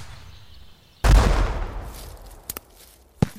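A single heavy artillery blast from howitzers firing into the hills booms out loud, its rumble rolling away for over a second, followed by a few sharp, shorter cracks of fire.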